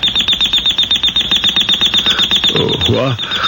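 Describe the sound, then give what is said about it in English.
An alarm clock rings loudly and continuously, a fast rattling bell that repeats several times a second throughout. A brief voice breaks in near the end. “The alarm, honey.”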